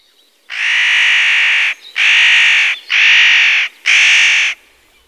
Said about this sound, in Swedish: Eller nötkråkan.